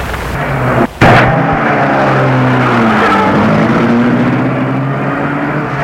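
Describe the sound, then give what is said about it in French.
A man gets into his car and starts it: the engine catches with a sharp burst, then settles into a loud, steady hum whose pitch rises and shifts as the car pulls away. No one speaks. “Et la met en route.”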